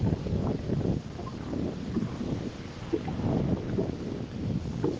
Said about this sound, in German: So fließend wie das Wasser, das du hörst.